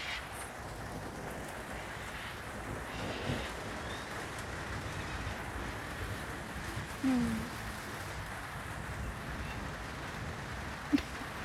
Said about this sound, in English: I really do love the rain. It makes me happy.